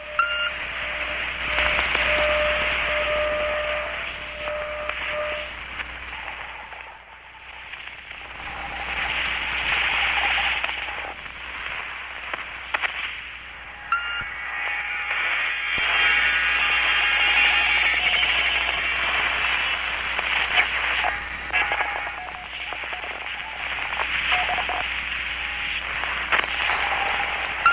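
Shortwave radio reception full of interference, picked up while listening for a satellite that is not the signal heard: a steady, dense hiss of static with faint whistling tones and a weak signal buried underneath, briefly dropping out twice before the noise returns.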